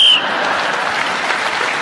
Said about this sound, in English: … was speaking as the whistle went.